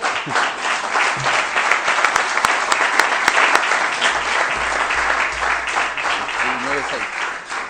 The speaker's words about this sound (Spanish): Aprobado por unanimidad en primera lectura el proyecto de ordenanza 3216. Pueden aplaudir los presentes.